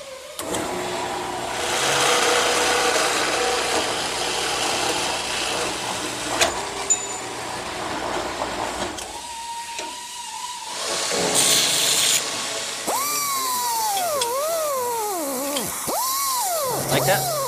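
A power saw makes a miter cut through metal in a shop with a loud, hissing rasp, then its motor whines in a steady tone before the pitch wavers and dips repeatedly as the blade bites into the cut.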